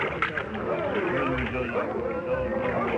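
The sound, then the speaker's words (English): A crowd of villagers crowding down to the shore to meet an arriving plane, yelling at once, many raised voices overlapping into a steady, loud clamor with no pauses for the full few seconds. “They're all crowding down to meet us. They're yelling something.”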